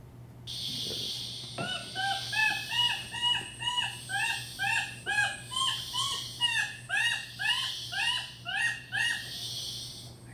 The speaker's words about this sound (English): Here's an example of one of our Lacandone informants flushing out a bird all on his own here.